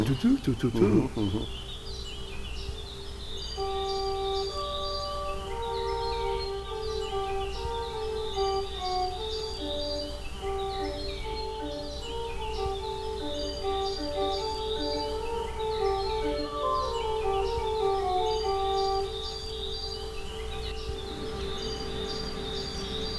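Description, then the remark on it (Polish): A common blackbird sings in the distance, its faint fluting phrases repeating steadily over a low, constant background hum, with other soft tonal sounds drifting in and out, 100 metres from woods and a park and 50 metres from the Church of the Visitation of the Blessed Virgin Mary in Klębsk. “Już przestały śpiewać słowiki. Tam daleko kos.”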